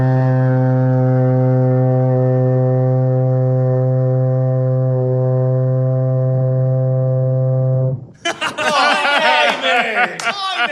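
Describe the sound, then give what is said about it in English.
A loud, very low working foghorn at a lighthouse at Summerhead in Shetland blasts in one steady, unbroken drone for about eight seconds, then cuts off abruptly as people burst into laughter and excited chatter. “It's a working foghorn.”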